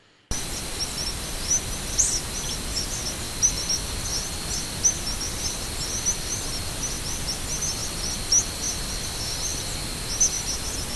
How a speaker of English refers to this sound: we actually have a recording you made of some of the birds migrating at night. Let's see if we can listen to that now.